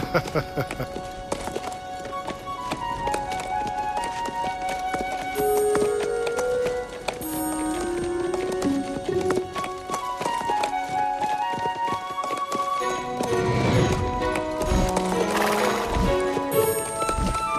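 Steady clip-clop of horse hooves on a road continues throughout as the rider reins the horse back, with a horse whinnying loudly near the end, layered over background music and a busy, dense ambience.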